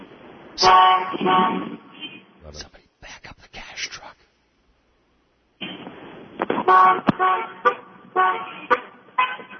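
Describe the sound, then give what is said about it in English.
Several car horns blare in loud, overlapping honks at a traffic light after it turns green, about 23 honks in roughly 30 seconds, coming in two sustained bursts separated by a brief quiet gap, with a person speaking between them. “I counted a clear 23 honks.”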